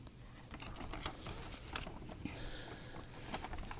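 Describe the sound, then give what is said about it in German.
Paper fluttering and rustling in a steady, irregular crackle, with a few sharper flicks standing out over several seconds; fairly quiet and heard on its own without any voices. “Ah, da hört man die Papier. Flatter.”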